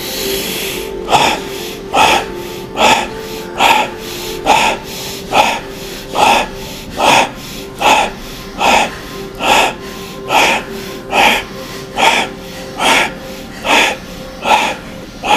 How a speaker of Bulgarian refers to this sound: А сега засили дишането, мини на бастрика, прана яма, гръдно дишане, бастрика. Вдишването е два пъти по-дълго от издишването. Това е правилото.